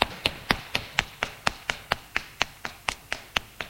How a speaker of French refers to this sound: Il ouvre la porte de l'appartement. Descend les escaliers en vitesse.